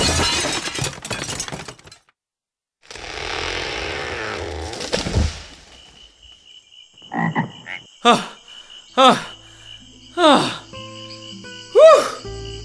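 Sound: frog croaking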